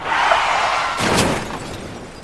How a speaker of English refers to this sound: Oh, bloody hell! What happened? You crashed into the pensioner's minibus.